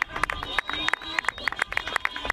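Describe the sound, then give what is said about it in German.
Scattered, irregular clapping from a grandstand audience at a horse-riding competition after scores are given, sharp hand claps popping out over a steady murmur of crowd voices and some higher sustained tones underneath. “Das ist ja Applaus.”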